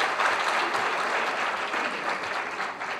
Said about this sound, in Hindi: ये ताली पहले इसलिए बजवा ली, बाद का कोई भरोसा नहीं था